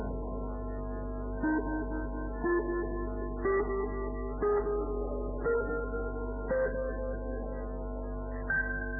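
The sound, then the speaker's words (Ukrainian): A voting tone in a legislative chamber: a steady electronic chime holding sustained notes that step to a new pitch about once a second for several seconds, clear and moderately loud with no talking. “Пожалуйста, включите тон для голосования.”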